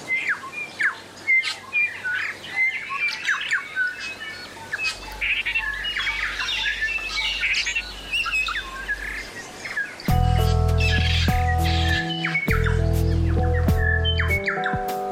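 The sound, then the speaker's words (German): A loud, dense chorus of many birds singing and chirping at once on an island in New Zealand, overlapping calls filling the air continuously; about two-thirds through, sustained musical tones enter and play over the birdsong. “Da kann man sich tatsächlich nicht mehr unterhalten, weil die Vögel so laut singen.”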